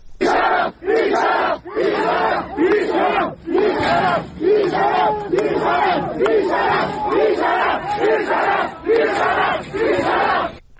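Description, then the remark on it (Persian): A large crowd of protesting students shouts and chants loudly in rhythmic bursts outside a university, with plainclothes forces at the entrance and a clash under way. Brief pauses separate roaring waves of many voices, with a tense, chaotic edge throughout. “صدای این اعتراض ها و این درگیری رو میتونیم بشنویم.”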